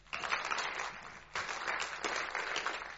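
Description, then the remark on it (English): A crowd applauds a singer after a worship song, with dense, noisy clapping that swells in bursts, briefly dipping before surging again, steady and moderately loud throughout with no talking. “You can clap him if you like.”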